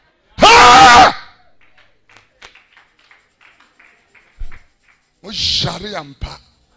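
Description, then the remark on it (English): A crowd of youths given t-shirts cheers, jumps around and blows vuvuzelas in two loud bursts, a one-second blast at the start and another near the end, separated by quieter scattered knocks and murmurs. “We give these youth t-shirts and dish out few notes to them, and they are here blowing vuvuzela, jumping around the place.”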